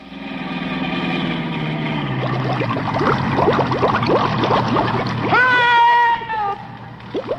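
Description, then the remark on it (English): Jerry Colonna's car, sealed up with puttied windshield, locked windows and sealed floorboards, driven into a bay 100 feet deep: engine hums, then splashes into water, followed by a dense run of bubbling, gurgling sweeps and a final rising burble, loud, with no talking. “I'll drive across the bay.”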